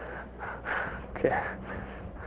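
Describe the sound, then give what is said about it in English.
Several slow, airy breaths drawn in and pushed out, each a soft rushing swell, with no talking in between. “So slow down. Slow breathing.”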